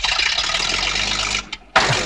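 A seaplane engine roars loudly, then sputters and cuts out with a brief cough before catching again and resuming its steady roar. No voices are heard.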